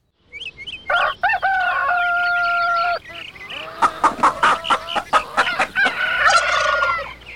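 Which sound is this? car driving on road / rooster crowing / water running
rooster crowing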